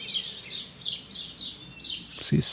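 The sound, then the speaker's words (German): A busy flock of sparrows chirps continuously, recorded near Trier, Germany, overlapping high tweets repeating in quick bursts, with a brief low thump near the end. “Eine ganze Horde Spatzen hat uns da jemand geschickt”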